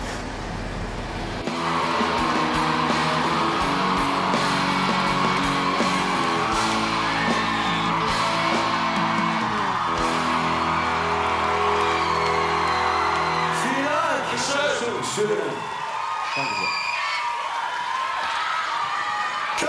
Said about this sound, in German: vor dem E-Werk und hier warten 2500 kreischende Teenies auf ihre Idole,